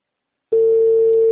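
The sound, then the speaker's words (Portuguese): Silence, then a steady electronic telephone ringback tone starts about halfway through and holds loud and even to the end, a single pure pitch with no voices. “Ó, tá chamando, ó,”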